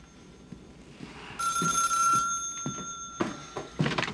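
An old-style telephone bell starts ringing partway through, a bright sustained metallic trill at close range, with a few soft thuds and knocks in the background and no talking.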